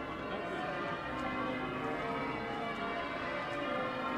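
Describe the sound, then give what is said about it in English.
The church bells of York Minster ring in a continuous, overlapping peal, their dense metallic tones filling the air steadily, with a faint murmur of crowds gathering around the cathedral underneath, on a bright blue-skied early April morning, the eve of the Easter weekend. “The church bells of York Minster are ringing out as the crowds gather around the cathedral.”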